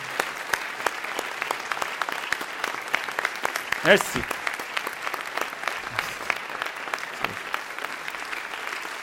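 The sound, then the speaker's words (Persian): A crowd applauds steadily throughout, a dense, even patter of many hands clapping for an arriving guest, while a voice briefly speaks over it midway. “مرسی، تشویق شایسته کنید دوستان.”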